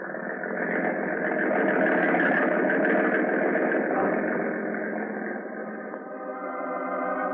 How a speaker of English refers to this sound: Now, turn that motor over, baby. Let's get out to that island fast.